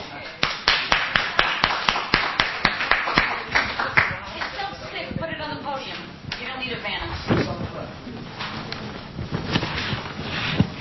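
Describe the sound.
A crowd applauds a team with dense, rapid, sharp claps, loudest at the start. Voices and cheering rise through the middle, and the clapping carries on to the end.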